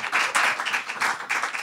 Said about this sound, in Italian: Pensate, dopo più di un anno il ragazzo che mi piace mi ha chiesto di uscire. Applauso.